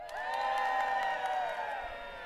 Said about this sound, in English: but in your seats, I'm going to need you to, in just a moment, kind of like shout and scream and wave and all that kind of stuff, all right?